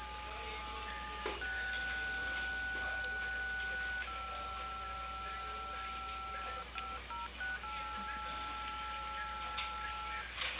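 Telephone keypad tones sound over a hissy phone line during a call to Cable Perú customer service. Each press gives a steady two-pitch beep, some held for several seconds, then a quick run of shorter presses with changing pitches. No one speaks.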